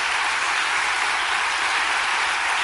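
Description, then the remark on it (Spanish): A crowd applauds loudly and steadily, a dense wash of many hands clapping at once without pause for the whole stretch, with no voices rising above it. The applause is given to the Lord. “Un aplauso fuerte al Señor, aleluya.”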